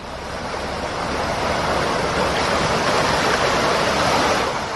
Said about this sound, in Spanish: La mayor preocupación la tienen los vecinos de la localidad cabanillera por la gran cantidad de agua que transporta el arroyo Cabanillas desde el término de Usanos. Escucha cómo bajaba ayer.